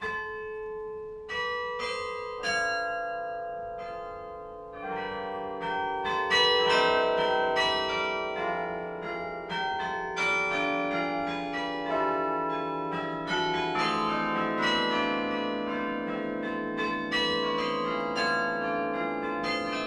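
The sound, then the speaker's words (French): A carillon plays a melody, many bells struck in quick succession with long ringing overtones that blend into a sustained, resonant wash. Loud and continuous, no voices. “Le métier du carillonneur consiste notamment à ça, essayer d'optimiser un petit peu le son du carillon, donc arranger les pièces, et on fait beaucoup de transcriptions, de chansons populaires effectivement que les gens reconnaissent.”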